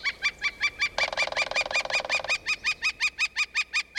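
northern flicker call

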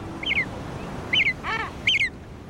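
common murre calls

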